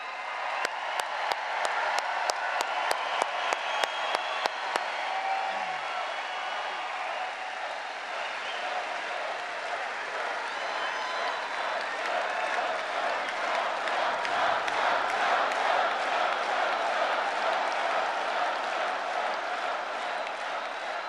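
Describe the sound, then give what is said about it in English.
A large crowd applauds and cheers steadily for about twenty seconds for President Donald Trump, with a few sharp, distinct claps standing out at the start before blending into a dense, sustained roar of clapping. “Let's give a big round of applause for your president.”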